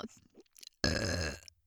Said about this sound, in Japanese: 生ゲップ。お姉さんのエロくて下品なゲップはおかずになってますか？ゲップでオナニーしたがりの変態お兄さんたち。リアルに今私が本当にマイクの前でゲップしてるんだよ。耳の形したマイクの前で。